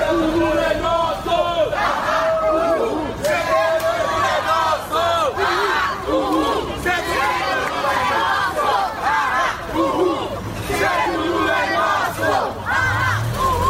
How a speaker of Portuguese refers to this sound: Ao entrarem no local, os manifestantes gritaram palavras de ordem.